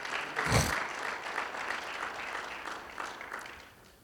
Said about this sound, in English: Let's give my wife a good clap offering here this day.